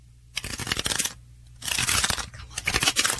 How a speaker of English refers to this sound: Shuffling cards. Correct.